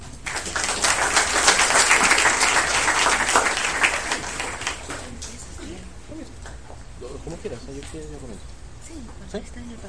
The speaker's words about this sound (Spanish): Bueno, sin otro particular, les voy a dejar con nuestros ponentes. Por favor, démosle un aplauso.